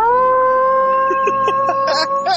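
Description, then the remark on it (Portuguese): A person voices a long, steady howl-like roar with the mouth as a farewell, holding its pitch for a couple of seconds, loud, with a few short breathy bursts toward the end. “você não quer se despedir com o rugido, não?”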